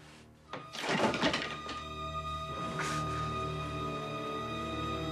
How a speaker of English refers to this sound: pushes away a piece of the broken table, flinging it across the room.